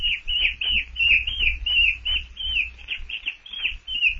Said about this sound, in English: Manu swings himself closer, hangs for a moment, tail curled about the branch, one paw holding the stem of a vine. With the other paw, he reaches out and touches Jane's hair. Oh, a monkey!